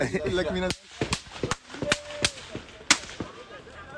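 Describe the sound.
A burst of gunfire aimed at a helmeted news crew in Jenin: about eight sharp, loud cracks at irregular intervals over a few seconds. A raised voice comes at the start, and faint voices continue underneath.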